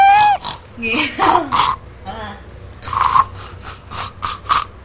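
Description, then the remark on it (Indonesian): A child's voice imitates a pig with a series of short, raspy snorting bursts, fairly loud, with brief talking mixed in between the snorts. “Kalau babi gimana babi?”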